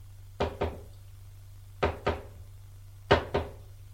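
knocking on a door

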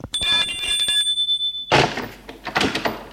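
doorbell ringing

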